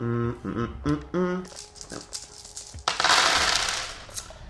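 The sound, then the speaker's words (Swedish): Short voiced sounds give way to scattered hard clicks, then a loud burst of clattering as dice tumble and rattle across a surface before settling. “Då slår du med plus 2.”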